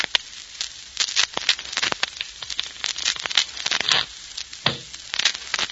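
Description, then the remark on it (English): Playing cards being shuffled: bursts of rapid, papery riffling and snapping that come in quick flurries with brief pauses between them, with no voices present. “Sound of shuffling cards can be dangerous music to certain ears”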